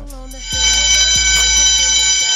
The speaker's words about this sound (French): Ah ouais, ça réveille. C'est la sonnerie, la fameuse sonnerie des classes. Vous êtes en retard, sonnerie.